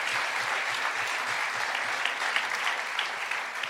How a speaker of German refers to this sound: Da hinten, der junge Herr mit der Mütze. Komm mal nach vorne. Ein Applaus für den jungen Herrn mit der Mütze. Ersten Freiwilligen.